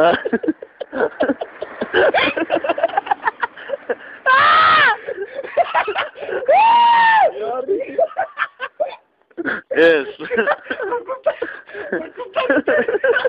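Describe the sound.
A person yells loudly in two drawn-out, high-pitched bursts amid fast, excited talking, followed later by a shorter shout before the chatter resumes.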